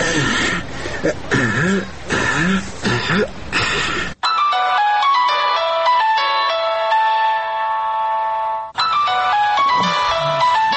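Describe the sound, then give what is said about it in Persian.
A mobile phone ringtone, a call from someone waiting outside the front door whose doorbell went unheard, plays a bright, electronic melody of steady repeating notes for about four seconds, loud, with bursts of throaty vocal sounds before and after it. “چی شدی که زنگ دروازه رو نمشنوی؟ تا که مجبور شدم در تلفن برات زنگ بزنم.”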